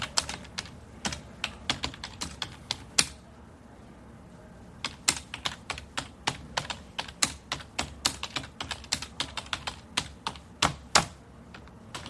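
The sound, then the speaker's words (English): Typewriter keys hammering in quick, irregular bursts of sharp clacks, pausing briefly partway through before the steady clatter resumes, clear with no voices. “I used to love the sound of typewriters. You know, they would hammer away.”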